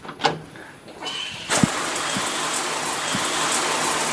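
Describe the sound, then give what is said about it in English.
After a few quiet knocks and clicks, a steady hiss of shower water suddenly sprays on at full force and keeps running, a dense, even rush to the end. “Can you show me where the shower is?”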